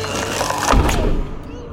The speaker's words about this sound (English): Then the lid slammed closed.